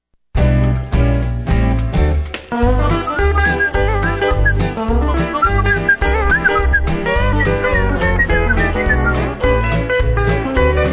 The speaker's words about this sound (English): Whistling is a lost art.